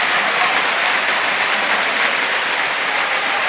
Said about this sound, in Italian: Esce Adrian Bernabé. Applauso del Tardini, meritato per Adrian Bernabé.